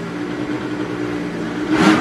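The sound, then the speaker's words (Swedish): A four-stroke snowmobile engine runs steadily with a low harmonic drone, then revs up sharply in a brief loud burst near the end, at Vasa Snowmobile in Smultre, Vasa. “Ja, här hör ni fyrtaktare minsann och avgaserna, de stämmer.”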